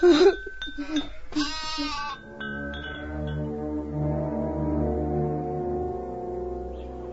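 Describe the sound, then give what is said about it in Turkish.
Sheep bleat loudly, a couple of quick wavering cries followed by a long, drawn-out bleat that holds steady for several seconds before fading slightly. “Hadi, hadi şimdi doğru koyunların peşine.”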